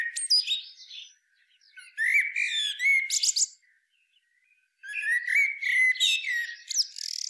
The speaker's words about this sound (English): There's nothing like waking up to a blackbird's call.